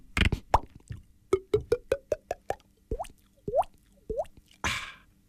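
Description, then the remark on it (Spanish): A voice imitates a water bottle glugging with a quick series of hollow, rising plops in a steady rhythm, clear, ending with a short breathy burst. “Sí, sí, te puedo hacer, yo qué sé, una botella de agua que hace”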